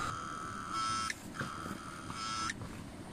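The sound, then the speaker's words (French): Cicadas buzz in a loud, shrill electric drone, rising in two long pulsing swells with a brief dip between them, over a low rumbling background and no voices. “Les cigales, voilà. J'ai elles oublié. Font ce bruit-là?”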